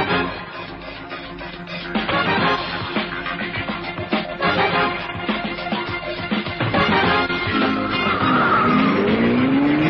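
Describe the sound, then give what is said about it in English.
A loud, busy car chase: engines roaring continuously while tires screech and skid, with a rising squeal near the end, no voices heard. “I've been in some car chases and the like in my lifetime, but this took a flipping cake.”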